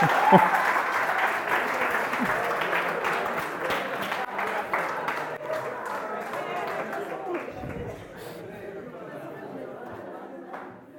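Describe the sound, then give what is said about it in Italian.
An audience applauds the performers with dense, steady clapping and some crowd chatter mixed in, loud at first and gradually tapering off over about eleven seconds. “Un applauso ai nostri artisti.”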